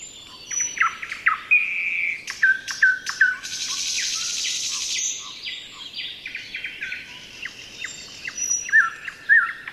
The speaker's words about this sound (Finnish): No esimerkiksi jos satakieli laulaa tälleen näin.